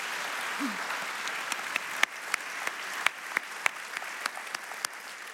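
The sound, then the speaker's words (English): An audience applauds at the end of a talk, a steady wash of many hands with sharper individual claps popping out irregularly above it, holding at a moderate level throughout with no talking. “So let's hear it for”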